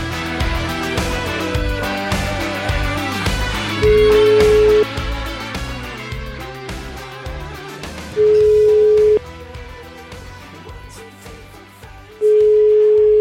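An outgoing call from Radio 24 to a building contractor in the Piacenza area rings three times, each a steady one-second mid-pitched tone separated by long pauses, playing over a loud, continuous music bed.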